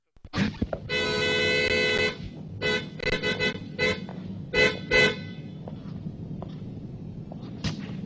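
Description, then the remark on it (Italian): A very sensitive car horn, set off by an elbow resting on it, blares in one long, loud blast, followed by a quick series of short honks, then one brief toot a few seconds later over a low engine-like rumble. “Lei ha clacsonato.”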